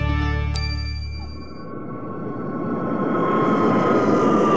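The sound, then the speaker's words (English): A steady, loud airplane engine hum with a brief chime near the start, the whine shifting into a broad roaring rush as the jet lands and taxis along the ground to the gate. “When your plane lands and you're late for a connecting flight, waiting to taxi to the gate is frustrating.”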